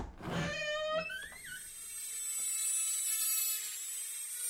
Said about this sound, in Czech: To má být co? Počkejte, to zní jako zvuk staré, ale hodně staré zubařské vrtačky. No, velmi správně.